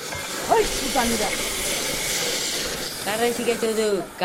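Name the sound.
blowtorch hissing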